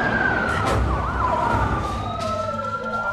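Several police car sirens wail at once as more police cars race into a darkened hospital car park at night, their overlapping tones sweeping up and down over a loud, rumbling bed of traffic noise as the vehicles close in.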